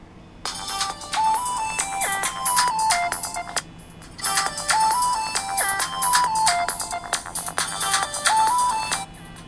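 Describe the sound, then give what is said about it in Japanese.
An IS15SH smartphone, slide closed, backlight off and TalkBack on, rings with an incoming call from a landline: its ringtone plays a repeating melodic phrase three times with short gaps between, its volume dipping and swelling across the repetitions, with no voices present. “着信音量が小さくなりました。一度小さくなってまた大きくなってまた小さくなりました。”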